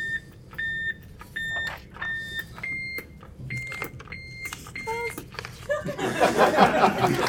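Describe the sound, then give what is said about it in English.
Quiz buzzers are checked one after another at a college quiz championship tournament between State College of Florida, Manatee-Sarasota and Valencia College: a series of about seven short, clear electronic beeps at slightly differing pitches, ending in a brief burst of noisy crowd reaction. “We'll begin with the buzzer check, starting over here.”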